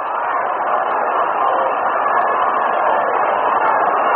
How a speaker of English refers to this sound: Aparicio walks on 4 straight pitches. And you'll hear the crowd now urging Louis to go, go, go.